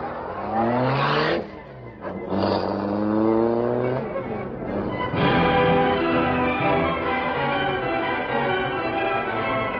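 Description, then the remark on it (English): The Black Beauty car's engine roars loudly as it starts to follow another car, its pitch climbing as it accelerates hard, dropping briefly at a couple of gear changes before surging on and speeding away. “All right, start the Black Beauty.”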